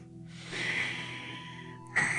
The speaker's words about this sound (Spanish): Y pueden practicar también la exhalación con lo que se llama Ujjayi-vra, que es... Cosa de yoga. Ajá. Eso les ayuda a concentrarse en la respiración.